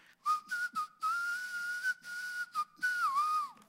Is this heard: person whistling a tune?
yes